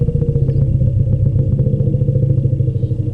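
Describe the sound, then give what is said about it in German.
An elephant gives a deep, continuous rumbling call addressing another elephant by its name, loud and steady for about three seconds, with a rapid throbbing pulse running through the low growl and no voices present. “Könnte sich auf Elefantisch so anhören.”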